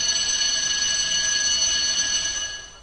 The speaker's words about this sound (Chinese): 好了，打铃了，快去上课吧。